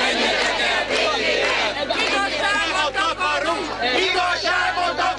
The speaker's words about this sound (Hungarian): Este 8 után már több ezer tüntető volt a főtéren. A tömeg a miniszterelnök és a kormány távozását követelte, de egyben békés szándékának is hangot adott.